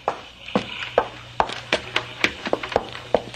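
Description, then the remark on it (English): Someone rattles and jiggles the locked galley door of a cabin cruiser that won't give, making a quick, irregular series of sharp wooden knocks and clatters, about a dozen in a few seconds, with no voices. “The door to the galley's locked. See? Won't open.”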